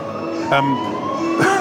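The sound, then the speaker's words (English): Sirens of ten ambulances wail steadily as they tear down Adelaide Road at the base of the reserve, getting stuck in traffic; the sustained tones are loud, with two brief bursts of harsher noise cutting in partway through. “because we're at the base of the reserve, there are 10 ambulances tearing down Adelaide Road.”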